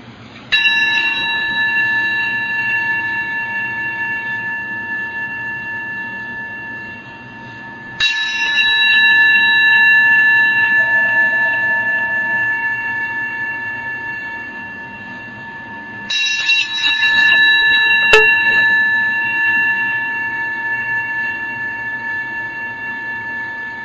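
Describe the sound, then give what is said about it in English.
A meditation bell is struck three times at slow, even intervals, each strike ringing out with a bright, sustained tone that slowly fades before the next. No voices. “So let's spend a moment and just listen to the sound of the bell.”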